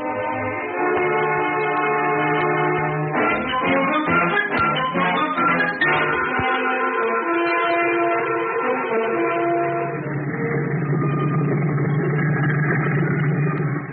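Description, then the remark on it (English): A single-engine plane's motor runs loud on the Calpasture runway before takeoff, a steady droning hum that wavers and revs briefly midway, then settles into a rougher, deeper rumble with no voices. “He raced the single engine down the Calpasture runway, held its nose with a steady hand, and lifted it smoothly into the air.”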